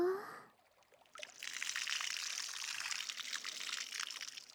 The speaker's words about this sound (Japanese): それでは泡を流しますね。目はちゃんとつむっていてください。それではかけますよ。